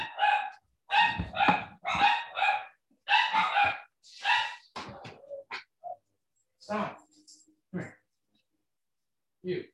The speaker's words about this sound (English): He's just distraught. No, if you're going to bark in here, you're going to be in real trouble.